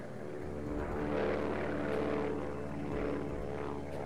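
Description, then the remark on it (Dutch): A steady, loud drone of propeller engines from B-25 bombers of the Royal Netherlands East Indies Army flying over the rice fields of Sumatra in 1946, with layered low harmonic throbbing that swells slightly in the middle and holds throughout. “In 1946 vliegen B-25 bommenwerpers van het koloniale Koninklijk Nederlands-Indisch leger over de rijstvelden van Sumatra.”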